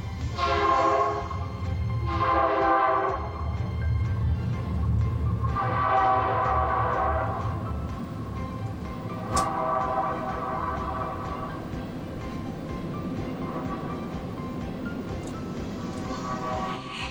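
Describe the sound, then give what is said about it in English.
A long freight train rumbles steadily past downtown while its horn sounds several loud, drawn-out blasts, with no one talking. “That's a long train.”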